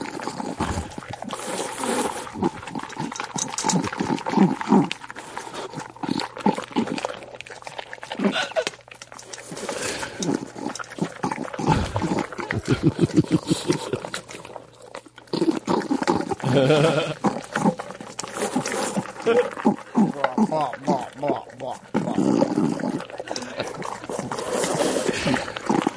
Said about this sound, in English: Every time she gets three big kibbles, this is the sound she's making.